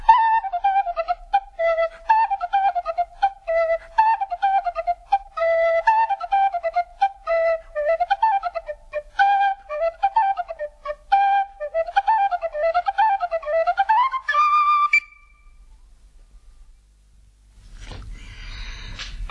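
A solo penny whistle plays a lively, ornamented melody with quick runs of notes, clear, ending on a long held note before a pause and a brief burst of rustling noise.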